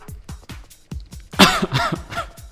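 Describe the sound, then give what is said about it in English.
A person coughs several times in a short, rough burst after swallowing a shot of strong spirit, with a throaty rasp and a sputtering breath. “It makes you cough a little bit.”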